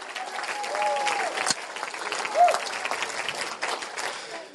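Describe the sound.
An audience claps steadily in praise of the Lord in sustained, dense applause, with scattered cheers and a few voices rising above the crowd noise.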